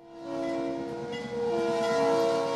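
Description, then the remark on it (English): An Iowa Northern locomotive whistle blows in a long, steady harmonic tone, with a brief dip midway, over the rumble and rattle of rail cars being switched alongside co-op grain silos in Forest City, Iowa. “It's been 7 years since folks have heard a train whistle in Forest City, Iowa.”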